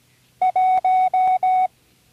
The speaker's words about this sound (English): The numbers in Morse code have a simple pattern. It should be obvious as we go along. Number one is...